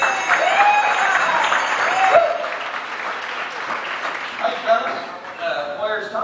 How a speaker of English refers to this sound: Y'all get the boys a big round of applause.